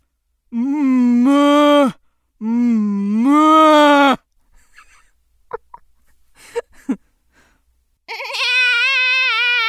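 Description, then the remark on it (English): A human voice imitates a goat's bleating, giving three long, loud, nasal bleats, the last with a quavering vibrato, separated by a pause filled with faint clicks and rustles. “That was a goat.”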